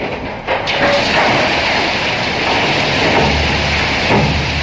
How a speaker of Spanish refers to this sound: Es este el sonido de un carro minero o un vagón minero que se volteaban de manera manual.